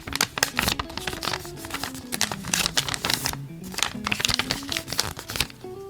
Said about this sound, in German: Okay. Jetzt habe ich ein Blatt Papier dreimal gefaltet.